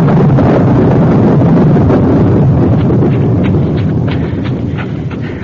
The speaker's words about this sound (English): What's that? Horse. One of the cavalry horses.